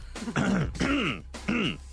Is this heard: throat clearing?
yes